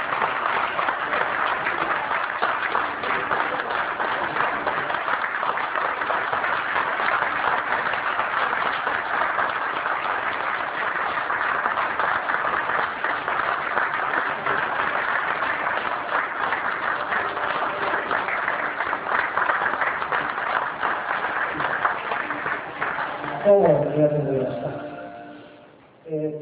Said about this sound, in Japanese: どうぞ、拍手でお迎えいただければありがとうございます。